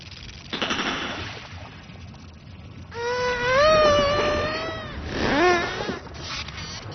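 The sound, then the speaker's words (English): Pacific spotted dolphin calls as they hunt as a team: a long, wavering high whistle with rich harmonics, a shorter rising whistle after it, and bursts of rapid buzzing sonar clicks earlier. No one speaks. “Pacific spotted dolphin.”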